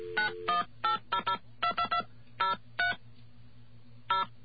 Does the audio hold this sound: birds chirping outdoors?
no